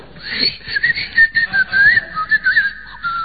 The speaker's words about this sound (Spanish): No, señores, es el aerosol del limpiahorno.